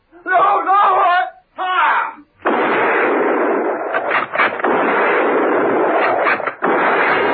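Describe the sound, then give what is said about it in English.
A voice cries out in two short, strained bursts, then a loud, sustained barrage of gunfire from troopers in a garage follows, broken by several sharper cracks standing out from the continuous roar. “Steed and Merlin heard the shots and without a word ran towards the garage.”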